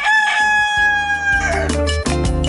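A rooster crows once, loud, in a long drawn-out call that breaks off toward the end, with rhythmic background music underneath.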